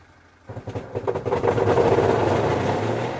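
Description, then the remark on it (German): After a brief hush, an electric car motor is started and starts humming as the vehicle drives off on a test drive, a low pulsing that quickly swells into a steady, moderately loud drone with a faint whine. “Leise beginnt der Elektromotor zu brummen.”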